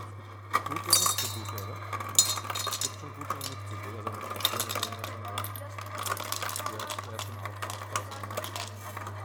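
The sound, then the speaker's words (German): Ice cubes clink and rattle as a small ice cube container is refilled, a quick, irregular flurry of bright taps over a steady low hum with faint voices in the background. “Und vielleicht diesen kleinen Eiswürfelbehälter nochmal füllen.”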